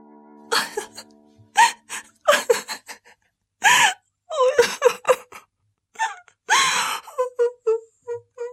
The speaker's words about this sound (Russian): Когда день клонился к вечеру, вышла несчастная красавица в сад. Села на лавку и, конечно, заплакала горючими слезами.